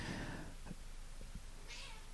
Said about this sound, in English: And man, my cats are they are being, well, that's Mabel that yells.